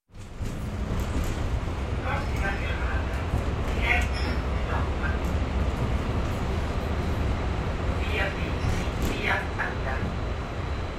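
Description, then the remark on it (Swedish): Inside a moving tram in Milan, a steady low rumble and rolling hum continue throughout, with brief faint squeals and clatters rising now and then and indistinct background murmur. “På spårvagnen bläddrar jag i La Scalas vårprogram och slås av hur de lyckats bevara känslan, sin berömdhet till trots, av att vara en lokalt förankrad kulturyttring.”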